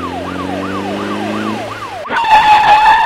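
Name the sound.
police car siren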